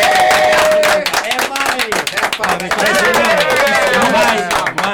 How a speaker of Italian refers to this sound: Applausi.